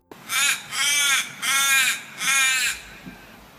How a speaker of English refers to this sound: whereas the little raven is like ah, ah, ah, ah, ah, ah, ah, ah, and it all stays on the same level